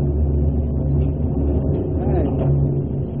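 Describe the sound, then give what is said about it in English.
Thunder rumbles deep and low, a steady, booming roll that fills the space without pause, sounding muffled and enclosed, heard from inside a cave. “That thunder sounds funny when you're inside the cave, doesn't it?”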